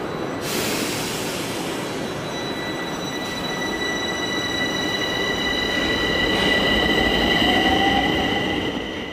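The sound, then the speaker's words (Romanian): A Bucharest underground metro train rumbles steadily along the rails, a dense continuous roar with high metallic whines and squeals riding over it. No one speaks. “Dar până să avem un transport feroviar de suprafață, trebuie să ne mulțumim cu trenurile din subteran.”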